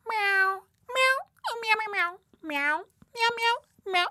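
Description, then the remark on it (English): A voice imitates a cat meowing, answering an interview question as the cat Mr. Whiskers, with about six drawn-out, pitch-bending meows in quick succession, loud, separated by short pauses. “Whiskers, how does it feel to be a cat?”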